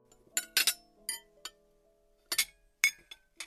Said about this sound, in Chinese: 干杯。两人举杯一饮而尽。